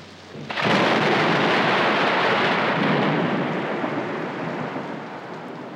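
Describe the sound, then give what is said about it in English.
A loud crack of thunder breaks in and rolls into a long, heavy rumble over steady pouring rain, slowly fading but still roaring at the end. No voices. “Was the storm exciting or frightening?”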